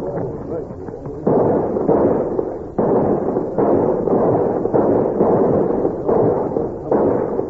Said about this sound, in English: Let's give them a salute. Yes, sir. Attention! Get your rifles! Load up fast! Come on, you men, make it fast now! Fire when ready!